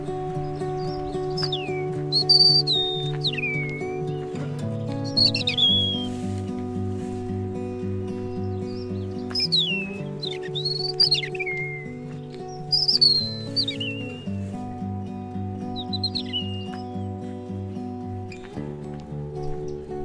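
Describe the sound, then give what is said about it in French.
A European robin sings in short, high, warbling phrases, repeated every few seconds over a steady low mechanical hum, with no voices present. “Depuis tout à l'heure, il y a un rouge-gorge qui chante.”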